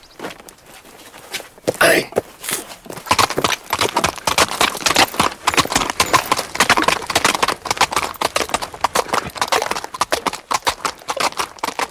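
horse hooves walking

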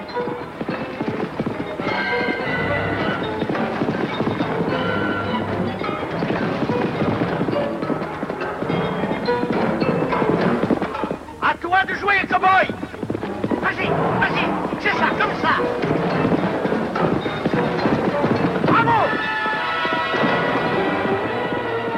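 horse hooves clip-clopping

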